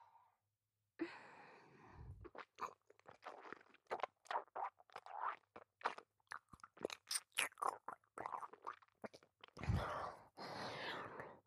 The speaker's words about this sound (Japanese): こびりついてるカスは唾液でふやけさせて。咀嚼して。